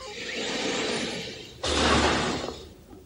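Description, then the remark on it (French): A door in a TV series scene slides open for Monsieur Hastings to leave, with a sudden pneumatic whoosh and low rumble, lasting about a second over a steady background hiss, then fading out. “Monsieur Hastings s'en va, s'il vous plaît. Ouvrez-lui la porte.”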